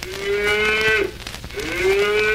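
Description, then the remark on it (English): A human voice imitates a cow mooing: two long, drawn-out moos separated by a short pause, loud, with no other talking. “And now, I'm a moo cow.”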